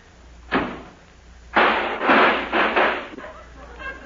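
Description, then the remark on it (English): A taxi's car door slams with a single sharp, loud bang, followed a second later by a longer burst of clattering, rattling noise in several uneven surges before it fades. “I guess I should have warned you about that, sir, when you slammed the door.”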